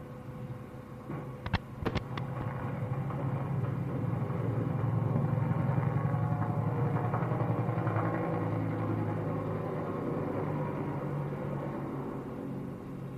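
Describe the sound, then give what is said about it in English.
Small propeller observation planes drone overhead, their low engine hum swelling gradually and then holding steady throughout, with a couple of sharp clicks near the start and no voices. “The little planes going over are observation.”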